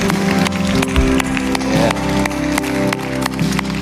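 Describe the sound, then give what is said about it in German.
A church audience applauds Jesus steadily for several seconds, dense clapping with sharper individual claps popping out, while a sustained tonal hum, like music, runs underneath. “Lass uns diesem König Jesus einen Applaus geben.”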